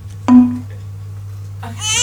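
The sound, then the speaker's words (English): A baby-crying sound effect, played by mistake instead of a door knock during a stage play, starts up near the end, a high, wavering wail rich in overtones, after an earlier short burst, with a steady low hum running throughout. No one speaks. “No, that's the baby. Wrong button. That's the baby.”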